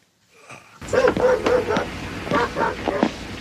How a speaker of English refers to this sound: What is that, a dog fighting ring?